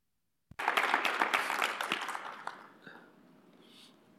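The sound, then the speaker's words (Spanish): A church audience, standing, bursts into applause for God after a brief silence, dense rapid clapping that swells loudly for about two seconds, then thins and fades to a softer patter with a few scattered claps. “Si va a aplaudir, aplauda fuerte porque es para Dios.”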